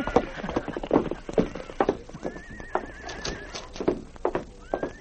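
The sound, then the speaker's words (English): A horse, Blackie, whinnies in a high, wavering call while hooves clip-clop in a steady, uneven rhythm of sharp knocks as Sergeant Preston rides him with King to the constable's office in Selkirk, with a second brief whinny starting at the end. “Sergeant Preston mounted his horse Blackie and with King rode to the constable's office.”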